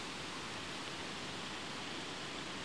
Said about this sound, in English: once again, as we're leaving the river behind, here at Hackfall, the only way is up, as we follow another stream with a series of cascading waterfalls heading in the opposite direction to me, down towards the river.